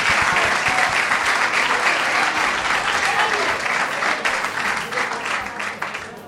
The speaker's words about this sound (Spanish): A ellos también los quieren un montón, ¿eh? Los han aplaudido muchísimo, sí, qué guay. Y le gritan cosas bonitas.